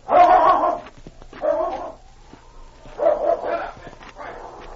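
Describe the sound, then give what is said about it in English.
A big, strong dog barks and growls in four heavy, rough bursts spaced about a second apart, fairly loud, with a faint whine drawn out between the second and third. “Man looks as mean as his dog.”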